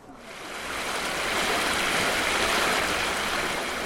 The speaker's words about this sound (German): Gleich hinter dem Wartesaal von Abisko führt eine kleine Brücke über den Abisko-Jakka, den Abisko-Bach, dessen rauschendes Wasser dem Eis und Schnee trotzt und an manchen Stellen hervorguckt.